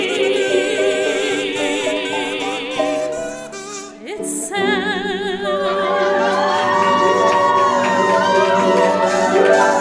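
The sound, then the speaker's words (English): A crowd cheers and whoops loudly, many voices overlapping in high shouts. The noise dips briefly partway through, then surges back and carries on at full strength. “I like when people cheer when I enter a room.”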